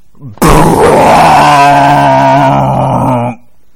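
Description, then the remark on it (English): A voice imitates a fart with one long, loud, buzzy raspberry from the lips, holding a low steady pitch for about three seconds before stopping abruptly. “You take that fart noise.”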